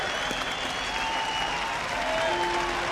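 A crowd at the Montana ski championships applauds a skier's run steadily, a dense wash of clapping that stays fairly even in loudness throughout, with a few faint tonal whistles or cheers drifting over it.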